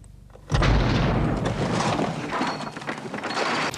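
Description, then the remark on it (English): After a brief hush, a car bomb, unsophisticated but extremely powerful and planted directly under the driver's seat, explodes with a sudden, deep boom. Several seconds of heavy rumbling and crackling debris then fill the air. No one speaks. “Graham was in the barn and never heard the explosion or Margaret's screams for help”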